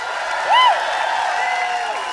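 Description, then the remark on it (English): A crowd applauding and cheering steadily after a band's live performance on KEXP, with a loud rising-and-falling whoop or whistle early on and another fainter one near the end. “Let's hear for them again.”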